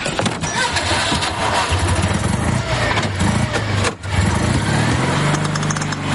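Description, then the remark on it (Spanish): A car engine cranks and catches, settling into a steady rumble that rises in pitch as it revs, briefly cutting out before picking up again, fairly loud throughout. “Se va a su coche.”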